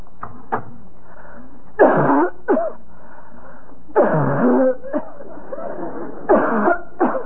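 A woman coughs repeatedly in several harsh, hacking bursts spread across a few seconds, close and fairly loud, with brief pauses between fits.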